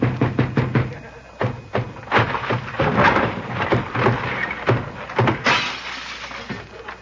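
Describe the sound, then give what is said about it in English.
A door being broken down: a quick series of heavy, sharp blows followed by a long, loud crashing and splintering rumble that gradually settles. No one speaks. “Now go ahead with the door.”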